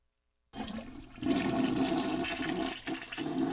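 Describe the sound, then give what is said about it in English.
A toilet flushes after a moment of silence, a loud rushing swirl of water that surges and stays steady, with gurgling as it drains. No one speaks. “now grown-ups are talking about dual-flush water-saving toilets”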